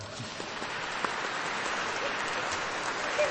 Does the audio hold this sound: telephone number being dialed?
no